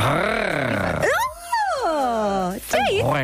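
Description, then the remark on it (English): A loud voice makes rolled-R tongue trills, a buzzy, growling rattle that swoops up and down in pitch across several bursts, almost like an animal snarl. “No, but you can roll your oar. Like it rolled there. Just you did a trill.”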